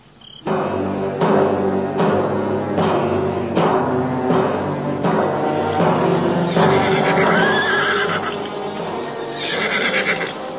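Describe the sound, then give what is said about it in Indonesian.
A horse neighs loudly, a long whinny with rising and falling pitch, while hooves clop in a steady rhythm underneath; no one speaks. The horses are being ridden. “Di atas punggung kuda mereka, Nandoko dan Guntur hanya bisa saling berpandangan.”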